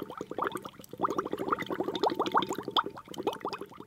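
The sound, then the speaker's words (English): Water boiling hard in a pot with a dozen eggs being boiled for Easter eggs, a dense run of rapid bubbling pops and gurgles that keeps going steadily, moderately loud, with no one talking. “You can hear the water bubbling in the pot.”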